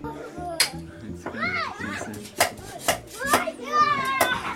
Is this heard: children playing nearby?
yes